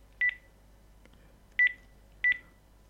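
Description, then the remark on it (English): Three short electronic telephone dialing tones as a phone number is dialed again on a JavaStorm device, each a brief steady two-pitch beep, spaced unevenly apart over a quiet low background hum, with no voices. “So let's try that phone number again.”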